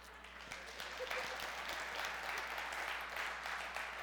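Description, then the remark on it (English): An audience breaks into steady applause, a dense wash of many hands clapping at a fairly even level for the whole stretch, with no voices rising above it. “And unfortunately, that's the thing you applaud?”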